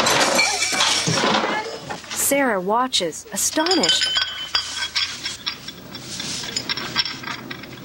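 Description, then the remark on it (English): Loud crashing and thuds as a man knocks one man across a table and another into some chairs, with dishes and food clinking and clattering, followed by scattered rattles. A voice speaks briefly over the commotion. “knocks one joker across the table and the other into some chairs.”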